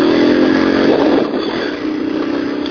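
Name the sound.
motorcycle engine revving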